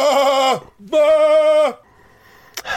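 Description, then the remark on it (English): A sheep bleats loudly twice in quick succession, each wavering call lasting under a second, followed by a short quiet stretch and a brief noise at the end. “Typical sheep reaction.”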